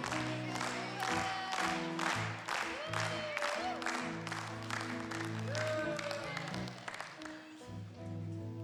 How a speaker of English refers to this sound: They all are cheering you.